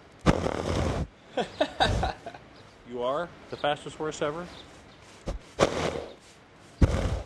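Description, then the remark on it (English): A horse named Country Grip snorts several times with his mouth next to a black microphone, loud breathy bursts of air lasting up to a second each, with a man's brief spoken question between the first snorts and the later ones. “That's his trademark right there. That's snorting.”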